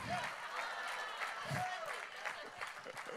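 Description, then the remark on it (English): A crowd applauds steadily throughout for college football, with dense, continuous clapping mixed with a few cheers and whoops, sustained at a fairly even loudness. “Some of you are like, enthusiasm waned a little bit when I told you why we were clapping, but thank you for doing that, because I'm a big fan of college football, and I'm glad it's back”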